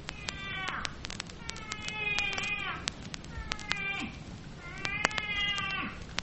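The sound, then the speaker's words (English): A moose calf calling for its mother: a series of four or five high, whining bleats, each about a second long, rising and falling in pitch over a crackly, hissing background. “The young also has its own language when looking for its mother.”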